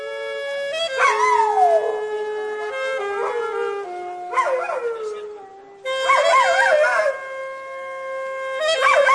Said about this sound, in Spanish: Y es que los perros, ya sabéis, que reaccionan frente a cualquier sonido. Pues un hombrecillo que estaba por la calle tocando el saxo tenor, empezó a tocar y un perro labrador se puso a cantar con él.